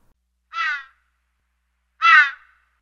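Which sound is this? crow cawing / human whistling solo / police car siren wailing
crow cawing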